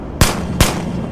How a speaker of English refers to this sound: At the sound of gunfire, I throw myself to the floor, which is a big mistake as I end up slamming my injured knees to the ground and banging my head on the rock wall.